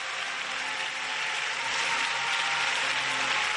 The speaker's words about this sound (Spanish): Y sigue la ovación en la Basílica, ¿eh? Claro. Es que sigue, minutos después sigue la ovación, ¿eh?